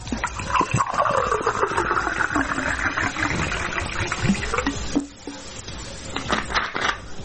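Bottled water is poured into a glass for a toast in Zrenjanin, Serbia, a steady gurgling splash lasting about five seconds, followed by a short pause and a few smaller trickles. No one speaks.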